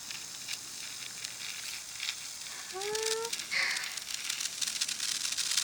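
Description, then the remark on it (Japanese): A just-lit senko hanabi sparkler fizzes and crackles, a steady sizzling hiss dotted with quick sharp pops that grow slightly busier toward the end, with no one talking. “パチパチいってます。”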